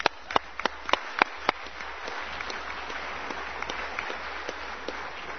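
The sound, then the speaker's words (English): An audience of members at a meeting claps together, starting with a few sharp, separate claps that quickly swell into a steady, dense wash of applause for several seconds. “I want you to thank all of your fellow members and yourselves, and great big applause.”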